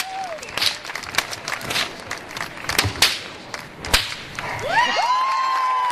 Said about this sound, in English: But there's also fire whipping. Let's take a listen. A man in front of a crowd holding a whip on fire to snap something off of his head.